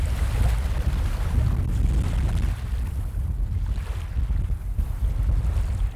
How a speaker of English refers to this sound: The 15-mile-an-hour wind blows snow into my face. The blizzard whips the waves to shore. The scene is loud, cold at 37 degrees, and mysterious, fueling my anxiety.